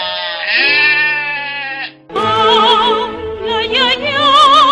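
Two long, loud sheep bleats close by, the first steady and nasal, the second following after a brief pause with a strong wavering quaver. No speech.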